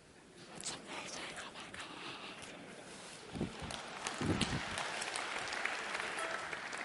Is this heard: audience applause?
yes